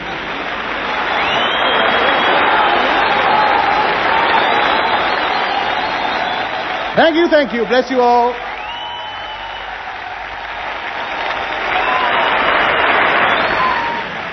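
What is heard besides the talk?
audience applauding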